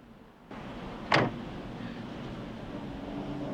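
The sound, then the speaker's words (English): A single sharp clunk of a car's driver's door latch opening as a man gets out, fairly loud, set against a steady wash of outdoor noise on a dark, wet street that continues afterward. “The driver's door opens and a man gets out”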